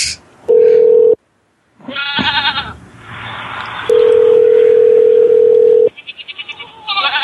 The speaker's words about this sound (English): He stayed up for that last little neigh. One more time. Last time.